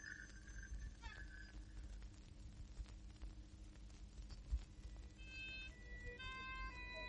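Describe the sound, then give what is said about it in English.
An ambulance siren wails in stepped, shifting tones over a steady rumbling background, growing more prominent toward the end as the ambulance arrives. No one speaks. “Give the ambulance some room, please. Here's your ambulance, old chap.”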